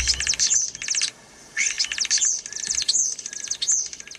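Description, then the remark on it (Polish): A starling sings a high, chattering run of chirps and whistles, breaking into rapid dry ticking that mimics a power line, with a brief pause partway through. “Ewentualnie na przykład potrafią naśladować dźwięki wydawane przez linie energetyczne.”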